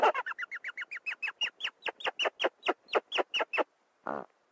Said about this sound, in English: Meet the rock hyrax, sometimes called the rock rabbit or the dassie, common in rocky areas of Africa and the Middle East. They live in groups of up to 80 individuals. The hyrax is, well, they're a mammal that has a rare phenomenon, which is singing.